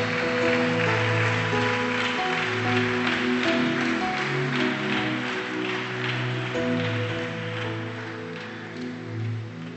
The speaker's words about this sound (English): Put your hands together. Give a clap of unto Jesus.